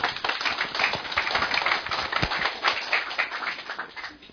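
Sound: audience applause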